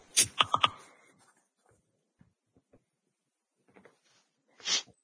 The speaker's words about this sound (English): Sounds like you're typing.